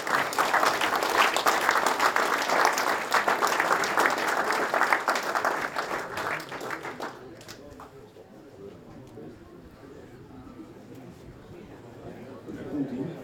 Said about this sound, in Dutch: Michel, kun je naar voren komen onder een luid applaus? Ja, zeker.